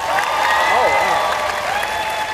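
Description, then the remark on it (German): A crowd applauds steadily and loudly for a couple of seconds when asked to clap for the anime One Piece, a dense wash of clapping with a few voices whooping and calling out over it. “Einmal klatschen für One Piece.”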